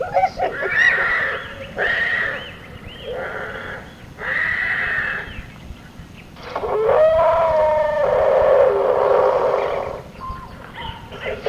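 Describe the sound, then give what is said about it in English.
A monkey imitates a horse's whinny: several loud, quavering neigh-like calls in short bursts, then a longer drawn-out whinny and a brief final cry, with no talking. “Monkey's mocking, making all kinds of mocking sounds of other animals.”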